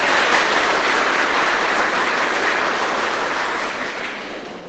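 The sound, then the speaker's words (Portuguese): An audience claps steadily, a dense wash of many hands with no gaps, loud throughout and easing off slightly toward the end. No voices are heard. “Até nossas palmas têm que ser afetivas, meu povo.”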